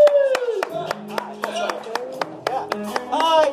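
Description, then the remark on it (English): Scattered claps from just a few people among a large crowd, a dozen or so sharp hand slaps in a loose uneven rhythm, heard over voices and tonal background sound. “Yeah, there was loads of people in there, but no one clapped, just the boys.”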